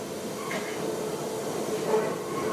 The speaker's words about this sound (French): La rame finit. Ça grince, ça grésille.